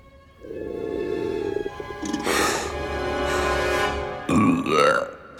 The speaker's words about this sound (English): Lucas's burp echoes through the anthill and comes out of the top in a puff of dust.